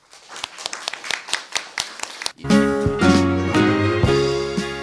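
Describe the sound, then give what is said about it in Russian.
Audience applause thanking the library staff at the end of an evening event at the Russian State Library for the Blind, recorded 18 April 2013: a series of sharp, evenly spaced claps for about two seconds, then loud, sustained music with steady tones. “Так, дорогие друзья, ну, наш вечер закончился сегодня, и я думаю, что выражу всеобщее мнение, и давайте мы аплодисментами поблагодарим работников нашей библиотеки за прекрасно организованный вечер.”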